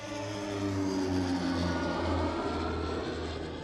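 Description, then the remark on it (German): The engine of a small propeller hail-suppression aircraft in Rosenheim drones steadily in flight, a continuous loud hum with a low rumbling tone and faint rhythmic pulsing, unbroken, with no voices. “Ebenfalls umstritten ist der Einsatz von Hagelfliegern.”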